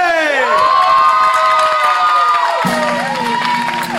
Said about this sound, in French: Mesdames et messieurs, applaudissez comme il se doit, Dovalé G.